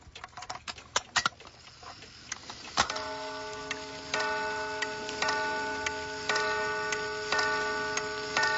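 Quick irregular ticking and clicking, then the chime of a string clock, its string made of special steel, struck about five times at a steady pace, each ringing tone sustaining and overlapping into a soft, shimmering wire-like resonance.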